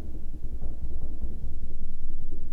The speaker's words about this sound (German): Die geben ja. Applaus da oben. Die Lampe zittert, siehst du? Also ja. einfach zur Erklärung, wir sitzen hier im Praxisraum. Oberhalb von uns ist ebenfalls eine Praxisgemeinschaft.